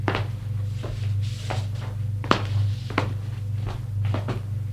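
Footsteps tap unevenly across a hard floor at close range, followed by the click and thump of a door being opened, all over a steady low hum.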